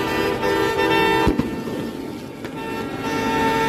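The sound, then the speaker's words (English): Several car horns blare almost continuously over the low rumble of traffic in gridlocked Ottawa in the middle of the night, overlapping tones holding steady with a brief thump partway through, loud. “The entire city is gridlocked. It's the middle of the night. And these assholes just keep honking.”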